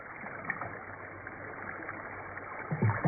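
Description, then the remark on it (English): Steady wash of river water with soft canoe paddle strokes dipping and pulling, a louder splashing stroke near the end, continuous. “Bobby smirks, then resumes paddling.”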